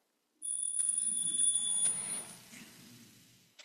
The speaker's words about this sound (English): That's my timer.